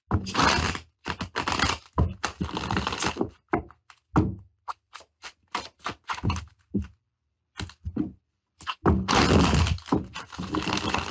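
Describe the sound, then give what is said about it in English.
A deck of tarot cards is shuffled before a card is drawn: dense bursts of riffling and papery flicks, with brief pauses and scattered taps between, then a longer shuffle at the end. No one speaks. “I love when they shuffle like this.”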